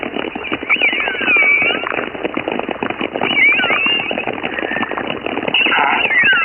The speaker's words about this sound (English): I've got some choruses which are interspersed with orca whistles.